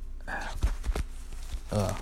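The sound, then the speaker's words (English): A phone is dropped and hits the floor, making a few quick thumps and knocks in a tight cluster, with brief murmured voice sounds just before and after. “I just dropped my phone.”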